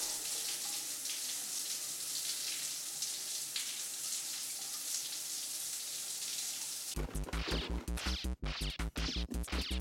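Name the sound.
shower water running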